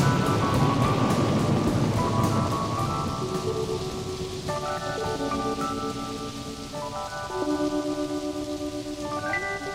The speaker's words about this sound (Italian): Fino all'ultima gocciolina di pioggia,